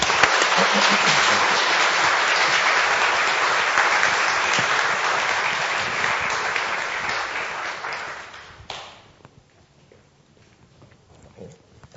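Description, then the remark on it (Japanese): Steady, dense applause from a crowd welcoming a guest speaker at a worship service holds for about eight seconds, then fades out and gives way to near silence with a few faint shuffles. “まず拍手を持って先生をお迎えします。”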